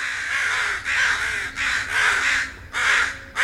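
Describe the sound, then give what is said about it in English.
An American crow caws loudly, a run of harsh, raspy calls repeated in a steady rhythm with brief pauses between them, no voices present. “Surprisingly, out of the 810 species of North American birds, there are only two that are completely black, the American crow and the common raven.”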